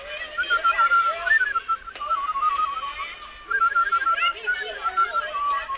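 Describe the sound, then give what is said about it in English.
A person whistles a wavering tune, the melody sliding between a few pitches over several seconds with a couple of brief breaks, somewhat unsteady and breathy. “I hope I can still whistle.”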